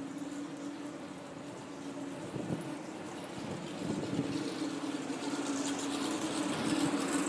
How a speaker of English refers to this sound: That's a very throaty sounding engine.